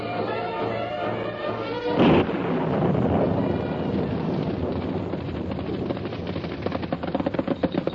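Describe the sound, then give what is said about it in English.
A sudden crack of thunder from an approaching storm breaks out, then a long, heavy rumble rolls on beneath a steady windy roar, loud, with no voices. “A round up at night with the storm coming on?”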